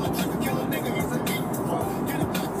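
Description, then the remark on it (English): Steady, continuous road noise inside a moving car: a low engine-and-tire rumble with a broad hiss over it, unchanging in level throughout, with muffled voices faintly underneath. “In-car hang sesh, if you will,”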